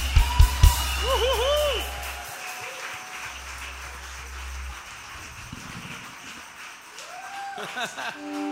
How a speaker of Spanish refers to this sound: más fuerte ese aplauso a Jesús.